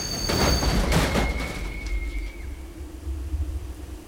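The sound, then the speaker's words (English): A train slams headfirst into a horse-drawn buggy crossing the railroad tracks on Inman Street, a loud crashing burst near the start, followed by a thin whistle-like squeal and a steady low rumble of the locomotive rolling on. “As Dr. Thompson and Nina crossed the railroad tracks on Inman Street, a train crashed headfirst into his buggy.”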